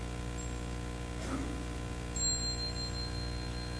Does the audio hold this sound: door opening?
no